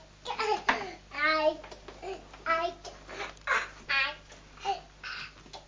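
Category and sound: vocal imitation, adult imitating baby babbling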